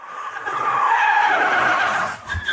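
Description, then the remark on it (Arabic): A red sports car's tires screech in a loud, sustained squeal as it pulls away onto the road again after being repaired, the high whine gliding in pitch before a brief low thump near the end. No one speaks. “ها هي السيارة الرياضية الحمراء تقود على الطريق مجددا.”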